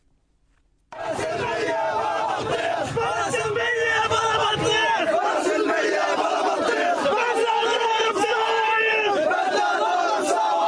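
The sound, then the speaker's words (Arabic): A large crowd of mourners cries out and shouts together as they carry the body of 16-year-old Fahd al-Astal at his funeral in Khan Younis, a dense, continuous roar of overlapping voices, loud and sustained after a brief silent start. “علت صرخات المشيعين وهم يحملون جثمان الطفل فهد الأسطل 16 عاما الذي قتلته قناصة الاحتلال قرب مخيم العودة شرق خان يونس.”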